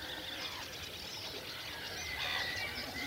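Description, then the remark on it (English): Common snipe calls rise from a busy lakeside bird chorus, a steady wash of overlapping chirps and warbling notes, picked up by a microphone placed at a lake to hear lapwings, with black-headed gulls on a raft also audible and no voices present. “But I'm just wondering, is that mic picking up any of those snipe sounds?”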